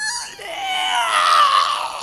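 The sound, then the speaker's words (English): A shrill, wavering screech held for about two seconds, loud, with a strained, wailing quality like a voice mimicking the sound. “Well, it was a kind of a screeching sound.”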